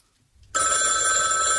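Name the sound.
telephone bell ringing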